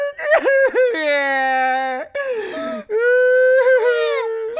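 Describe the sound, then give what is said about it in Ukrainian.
Loud wailing cry: a voice lets out several long, drawn-out sobbing wails with sliding, quavering pitch, broken by brief catches of breath, no words spoken. “Ти насправді плачеш, а? Плачу. А я думав, що ти ревеш від задоволення.”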